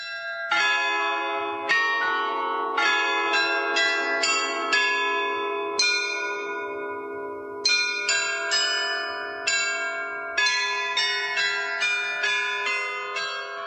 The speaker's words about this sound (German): Jede Stunde erklingt im Turm der Loretto-Kirche auf dem Hradschin ein Glockenspiel. Mehr als 100 Jahre lang hatte es die immer gleiche Melodie. Das hat sich aber nun geändert.